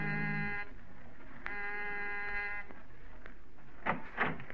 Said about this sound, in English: It's nearly an hour before you see him come out and start down the stairs. Almost before he's out of sight, you're down the hall ringing the doorbell.